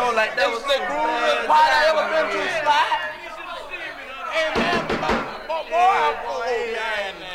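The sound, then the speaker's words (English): A quick burst of about four sharp knocks on a door cuts through several people talking and chattering over one another. “why don't you answer the door, man? You're the closest one to it.”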